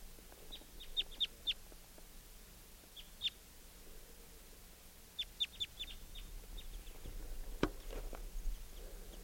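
bird chitter call

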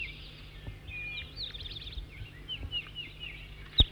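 bird song

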